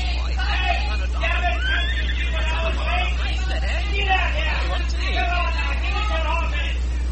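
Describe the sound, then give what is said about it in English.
A horse-drawn mail coach pulls up with a horse neighing and snorting, amid a busy hubbub of voices and a steady low rumble underneath. “Hey, that must be the mail coach. Traveled all night, likely, and changed horses at Kimbleton.”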